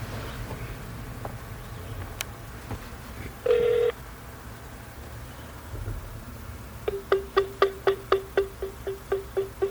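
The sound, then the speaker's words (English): A phone ringing tone over a speakerphone during a Google Voice call: one short electronic beep, then a quick, even run of about a dozen buzzy pulses, clear over a faint background hiss. “It's ringing.”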